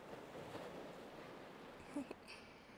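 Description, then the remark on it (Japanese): Soft, steady wash of gentle ocean waves at night, a low continuous hiss with no clear breaking crests, plus a couple of faint brief rustles near the end. No talking. “聞こえるのは心地いい波の音だけ。”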